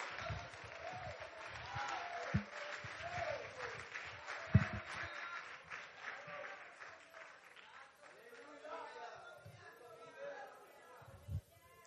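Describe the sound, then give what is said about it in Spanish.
A church audience breaks into sustained applause for God, a dense crackle of many hands mixed with cheering voices and crowd chatter, thinning out toward the end. “Dale un aplauso a Dios.”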